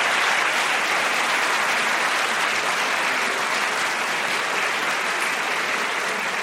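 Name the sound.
audience round of applause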